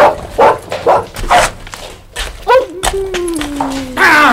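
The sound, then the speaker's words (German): A dog barks three times in a quick, even rhythm, then gives a sharp yelp followed by a long, high whine that slides slowly downward in pitch. “Ah! Der Kröter! Wo kommt der jetzt wieder her?”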